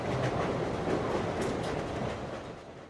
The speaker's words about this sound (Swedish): Och därför sitter jag och min producent Tanvir på ett tåg mot Göteborg.